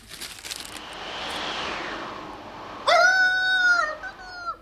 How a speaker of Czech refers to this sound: Ale než jsem si to mohl přečíst, zafoukal vítr a odnesl vám papír z ruky. Zachytil se tamhle u cesty na stromě.